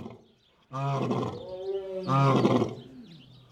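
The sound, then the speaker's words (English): Two loud, deep lion roars in quick succession, each a rich, rumbling bellow with a lower groaning tone between them, fading to quiet at the end. No one speaks. “Right now they're probably talking about,”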